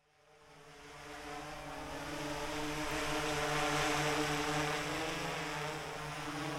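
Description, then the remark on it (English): A higher-spec drone with a multispectral camera flies: its steady, droning propeller whine fades in over the first couple of seconds, then holds loud and constant, a layered buzz with a rushing airy hiss and no voices. “I've seen drones before, obviously, but that is impressive.”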